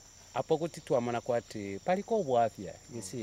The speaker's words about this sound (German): Handy klingelt.